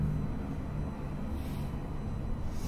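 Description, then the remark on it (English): A steady, heavy low rumble of trucks passing, continuous and fairly loud throughout, with no voices or other distinct sounds standing out. “Sound of our chanting and the sounds of trucks.”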